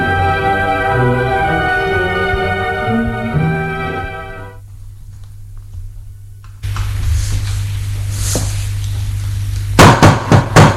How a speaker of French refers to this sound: On a frappé à la porte.